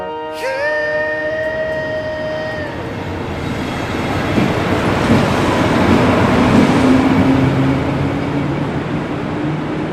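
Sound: train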